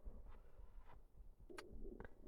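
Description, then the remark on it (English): A quiet stomach growl from a person lying in bed: low, bubbly gurgling rumbles that rise and fade, with a couple of brief squeaky gurgles near the end and no talking. “Oh, I hope you can't hear my stomach growl.”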